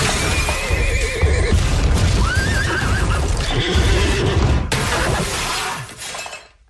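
A horse neighing sound effect: a horse whinnies loudly in several wavering cries over a dense, crashing clatter like breaking glass, with no talking, before the noise cuts off and fades at the end.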